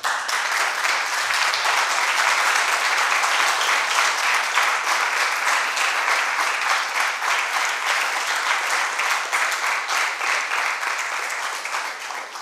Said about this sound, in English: You clapped a little bit too early. Maybe you can do it again afterwards, let's see.